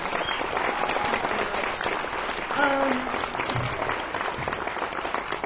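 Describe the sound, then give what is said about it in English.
An audience at a show applauds steadily for several seconds, a dense, even wash of many hands clapping, with a brief tonal cheer rising out of it partway through. “So please give a round of applause to them.”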